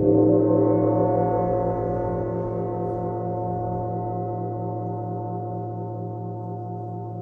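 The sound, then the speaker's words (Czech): A gong rings out with a deep, sustained metallic hum, its layered overtones pulsing and wavering steadily as the tone slowly fades over several seconds, with no voices. “i sa gongom može terapijski, terapeutski da se radi, ali kažem, naša priča je sad vezana za tu relaksaciju i za opuštanje.”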